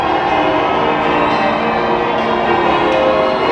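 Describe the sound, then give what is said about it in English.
The bells of St Paul's Cathedral pealing continuously as guests arrive for a Platinum Jubilee event, a loud, dense wash of overlapping ringing tones with no pauses and no voices over it. “The bells of St Paul's Cathedral pealing as they arrived.”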